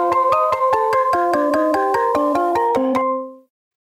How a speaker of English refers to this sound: And this is the point in the story where Shelby's cell phone rings.